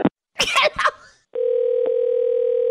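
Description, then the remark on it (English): A short burst of voice and breathy noise, then a loud, steady dial tone as a call is placed on a cell phone, humming continuously for over a second with a faint click partway through. “Okay, no, I'm calling him on a cell phone right now.”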